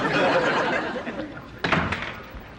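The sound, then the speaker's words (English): A front door bursts open with a sharp bang partway through as Archie barges through it, following a stretch of busy, rumbling background noise, and the sound quickly fades afterward. “Later, Archie barges through his front door.”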